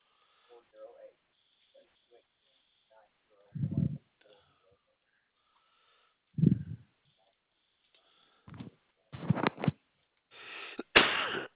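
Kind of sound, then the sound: human body sound, repeated coughing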